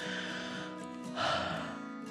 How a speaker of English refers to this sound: After dancing a while, the five little fish noticed they felt sleepy. Fish Five opened his mouth wide and yawned. Then Fish Four yawned,